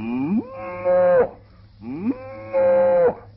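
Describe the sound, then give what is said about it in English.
A human voice imitates a cow, giving two long, loud moos in a row, each swelling up from a low groan and holding a strained tone before cutting off, with no talking. “Imitate a cow or milk one? Well, I'd rather imitate one.”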